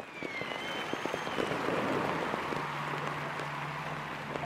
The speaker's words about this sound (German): Jubel. Schwarz-rote Fahnen auf den Straßen.